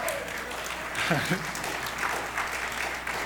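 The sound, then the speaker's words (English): An audience applauds steadily for the whole stretch, a dense wash of many hands clapping at even loudness, with a brief faint vocal sound rising out of it midway. “I'll tell you, you might want to hold that applause.”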